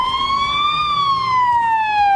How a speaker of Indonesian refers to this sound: Ambulans melaju kencang di jalan-jalan dan Palang Merah Lebanon meminta dokter dan perawat untuk datang ke rumah sakit dan warga sipil untuk menyumbangkan darah.